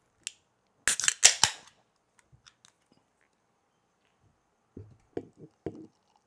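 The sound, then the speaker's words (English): A sharp click, then a loud crack and fizzy hiss as a can of Arrogant Bastard Ale is popped open, followed by quiet handling noises as it is poured into a cup, and a few soft knocks and clinks near the end. “I'm pouring mine in a cup so I could share some of this Arrogant Bastard Ale in a can.”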